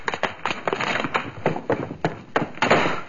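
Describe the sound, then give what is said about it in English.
A spider knocks a bottle of chemical serum to the floor, making a quick run of irregular thuds and knocks, moderately loud, with no voices. “Spider just got through knocking the bottle of chemical serum to the floor.”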